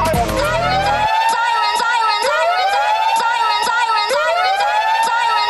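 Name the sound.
emergency vehicle siren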